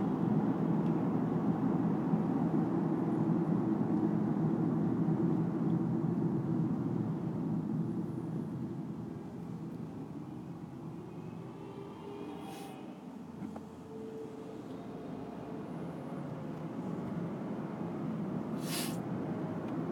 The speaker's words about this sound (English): Guy riding his bike over the overpass has stopped to stare out at the cars on the freeway. Northbound traffic is apparently snarled. It's not moving.